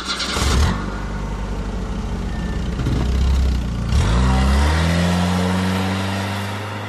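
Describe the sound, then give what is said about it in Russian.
A car engine starts on 13 March at 23:22: it cranks and catches, then revs up loudly and settles into a steady, rising drone. No one speaks. “Глеб, поехали, там с дедом что-то. Сигнал камеры, переход на камеру автомобиль субъекта.”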